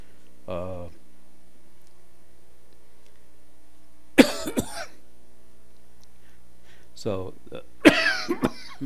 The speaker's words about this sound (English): excuse me, I keep coughing here.